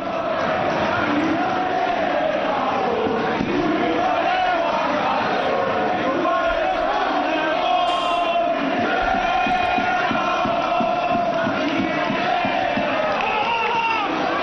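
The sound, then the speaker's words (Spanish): A huge football stadium crowd shouts and chants insults in unison during a match, a loud, unbroken roar of many voices with rising and falling chanted tones that carries through the whole stretch. “estos son los gritos.”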